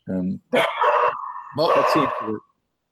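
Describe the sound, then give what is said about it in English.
Dogs bark in loud, drawn-out bursts, three in quick succession, with a whining, howl-like tone stretching between the last two. No one speaks over them. “Sorry about that. The dogs, you know.”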